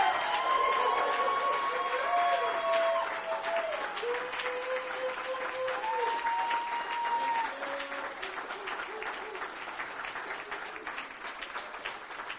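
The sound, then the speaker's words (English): A church audience stands and applauds steadily for the man who keeps the church clean, a dense wash of clapping from many hands with scattered cheers and sustained musical tones underneath, easing slightly in loudness toward the end. “Would you guys stand up and give him a round of applause?”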